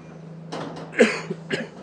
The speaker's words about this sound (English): Why do I always cough when I start? Boo. Must be allergic to recording.